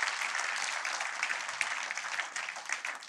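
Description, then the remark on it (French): Sustained audience applause, a dense crackle of many hands clapping at a steady, even level for the whole stretch, with no voices standing out. “Est-ce qu'on peut applaudir pour encourager celui qui en ce moment a besoin d'entendre?”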